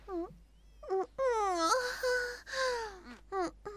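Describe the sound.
A voice imitates a zombie, letting out a series of drawn-out, wavering moans and groans with sliding pitch, fairly loud, in short bursts around one longer wail.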